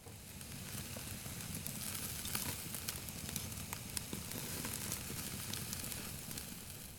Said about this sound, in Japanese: はい、これ奮発して和牛買っちゃった。霜降りだよ、霜降り。焼いたらジューっていい音するよ。うん、今から焼くね。